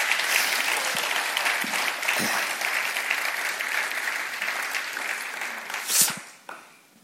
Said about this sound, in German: Und ich denke, da können wir euch mal einen Applaus geben.